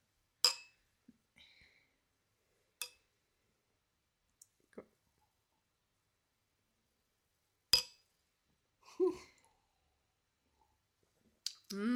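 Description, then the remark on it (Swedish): A few sharp, bright clinks ring out against near silence as glasses of an alcohol-free sparkling drink are clinked in a toast, spaced irregularly, with faint soft rustles and a brief murmur of a voice in between. “Skål då.”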